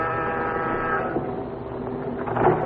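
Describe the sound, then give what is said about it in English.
A door buzzer at an address down in the village is pressed and sounds in one long, unbroken electric drone lasting nearly three seconds, harsh and rich in overtones, steady in loudness, with no voices over it. “As you press the door buzzer, you wonder what Pat had found out.”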